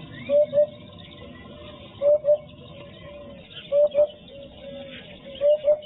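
A hoopoe calls in soft, low hooting pairs, "hoop-hoop," repeated four times at an even, unhurried pace, clear against a quiet background.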